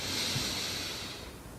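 A long, airy deep inhalation through the nose, steady, a soft breathy hiss that holds for over a second before easing off; the second deep breath of a guided relaxation breathing exercise. No one speaks.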